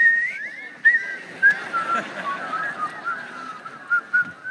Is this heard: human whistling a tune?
yes